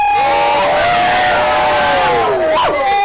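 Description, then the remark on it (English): A crowd erupts in excited shouting, many voices joining in a loud, sustained cheer whose pitch swells and dips, with a sharp rising whoop near the end. “The crowd erupted.”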